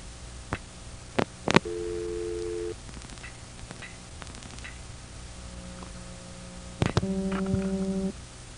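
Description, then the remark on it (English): Telephone line test sounds from a 703494 coin phone on a common control step-by-step exchange, dialing the local dial pulse test 415: sharp scattered clicks, then a steady electronic tone lasting about a second. Later, more clicks lead into a layered chord of tones, all over a faint background hum. “I'm at a 703494 coin phone. It's common control step-by-step. A local dial pulse test is 415.”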